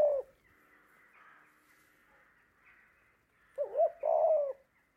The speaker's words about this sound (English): A murder of crows. Looking down from the trees, a gentle moaning rising and falling again and again. A pitying of doves.